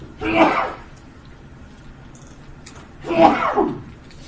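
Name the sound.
sneeze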